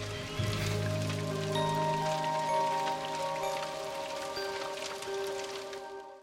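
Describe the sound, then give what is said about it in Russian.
Steady rain patters onto wet mud, beating into a small pile of ash, a dense continuous spatter of drops, with a low sustained tonal hum running underneath and no voices. “У него за спиной капли дождя вбивали в грязь горстку пепла.”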